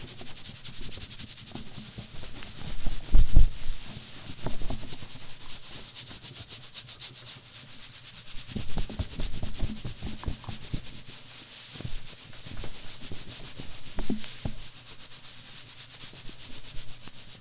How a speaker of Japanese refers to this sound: 髪をタオルで優しく拭いて。